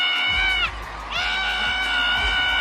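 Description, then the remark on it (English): A woman, a fan of a singer, screams and cheers for a singer at the Grammys in long, high-pitched shrieks, briefly breaking off before erupting again, loud over the noisy roar of an excited crowd. “And she was losing her mind cheering for … at the Grammys.”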